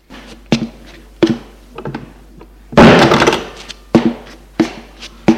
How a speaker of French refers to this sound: Xavier entre et il ferme la porte.